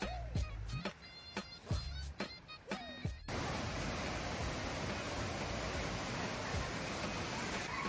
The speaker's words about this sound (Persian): بله، و این هم آبشار اول آبقد.